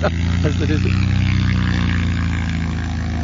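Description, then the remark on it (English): A Cessna 182 light propeller plane taxis past, its piston engine droning steadily, a loud, even, low buzzing hum that holds throughout, with a voice briefly audible over it near the start. “We're going to let the 182 taxi pass us.”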